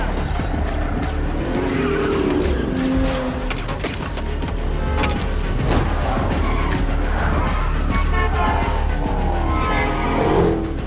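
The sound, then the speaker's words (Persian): In a video game, a car engine revs hard while tires squeal and skid in long sliding bursts, loud, with a steady roar throughout and faint crowd-like noise in the background. “داره ماشین رو میدازه.”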